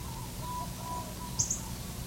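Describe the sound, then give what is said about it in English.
A myna bird calls from a hedge of Norfolk pine on the edge of an orchard with two quick, sharp high-pitched notes, over a steady low outdoor rumble and faint, drawn-out tonal calls in the background. “This is a minor bird in about in a hedge of Norfolk pine on the edge of the orchard.”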